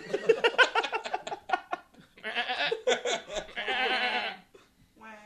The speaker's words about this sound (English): Sister, without warning, a goat is in the tub. None of the camera crew stops this from happening.